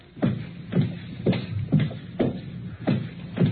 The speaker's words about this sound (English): Footsteps.